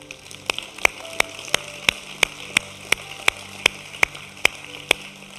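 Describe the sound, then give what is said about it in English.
An audience at Wellspring claps in unison at the end of the church service, as the offering is taken, to celebrate Jesus: a brisk, steady beat, about fourteen sharp, even claps in a row, with faint sustained tones humming underneath and no one speaking. “See, we clap every week at this moment because we're reminding ourselves this is something we get to do.”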